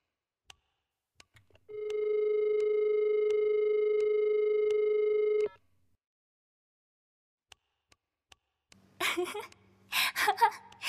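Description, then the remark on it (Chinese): A steady telephone dial tone hums for about four seconds as a call is being placed, then cuts off, followed by scattered faint clicks and a short burst of breathy, vocal-sounding noise near the end. “好吧，既然先生您这样坚持的话，那就由您来打电话吧。”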